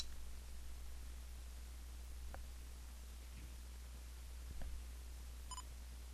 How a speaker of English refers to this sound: And it just gave me two beeps to indicate the battery has been inserted properly.